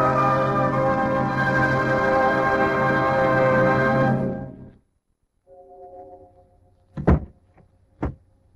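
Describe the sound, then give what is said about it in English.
A door shuts with two solid thuds about a second apart, fairly loud, following a burst of loud sustained music that cuts off abruptly and a low hum. “A closing door finishes the story.”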